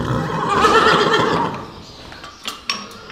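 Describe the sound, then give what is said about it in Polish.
A grey 19-year-old horse named Siwy neighs loudly, a long shuddering whinny lasting over a second, followed by a few faint clinks and light knocks, at the Żydowo farm in Wielkopolska, Poland. “Tak rży siwy, 19-letni koń z umaszczeniem odpowiednim do imienia.”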